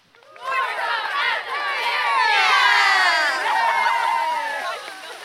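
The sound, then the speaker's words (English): A group of cheerleaders cheers loudly together, many high voices whooping and shouting at once in a sustained burst that swells and then tapers off after about five seconds. “Let's have a cheer for the show.”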